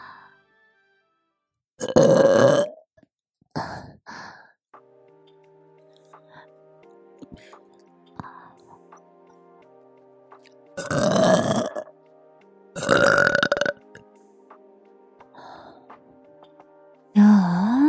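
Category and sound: human body sound, woman burping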